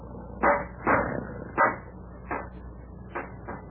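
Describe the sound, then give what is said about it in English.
A rock bangs against a bent metal fire grate to straighten it, in six sharp, clanking blows at an uneven pace, the first three loud and the later ones softer, with no voices. “Oh, I can straighten it out with this rock.”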